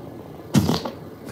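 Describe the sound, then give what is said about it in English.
A single short, blustery recorded fart played back, loud, lasting under half a second with a brief trailing sputter, heard alone against faint background hiss. “So when I had a fart again, I'm like, I wonder what, so I recorded it.”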